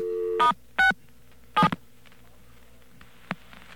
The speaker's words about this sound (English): Okay, we're going to dial 9 to get out. And we'll dial star 67, as you say. See if we get anything.